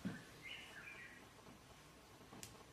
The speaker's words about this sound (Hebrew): הציפור אומרת לנו שהגיע הזמן של השעה עם ב... לא, היא מקדימה קצת. היא תמיד באותו זמן. היא לא מקדימה, היא יודעת טוב מאוד.